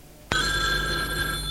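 A telephone bell starts ringing abruptly after a brief quiet moment, a loud, bright, sustained metallic trill that continues steadily to the end, with no voices.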